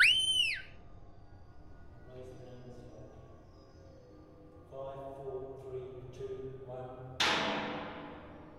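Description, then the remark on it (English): A short, sharp, abrupt whistle, a command for a dog to drop, rises and falls loudly right at the start, followed by quieter tonal sounds and a sudden noisy burst near the end. “Now I do a short whistle like that, short abrupt whistle, my dog drops.”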